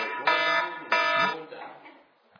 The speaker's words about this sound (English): There's our alarm.